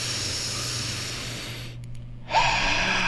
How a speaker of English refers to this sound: Let's do this in 3, 2, 1, all the way in through the nose.